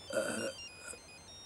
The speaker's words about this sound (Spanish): ¿Que una vez que has cumplido los 100 ya no te dignas a contestar al teléfono?